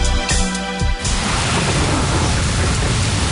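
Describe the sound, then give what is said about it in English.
Heavy rain pours down in a loud, steady roar, with a deep low rumble like thunder underneath; a brief tonal sound cuts off in the first second. “Don't wait for the rain to start bucketing down.”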